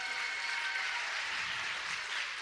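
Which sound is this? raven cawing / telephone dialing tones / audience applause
audience applause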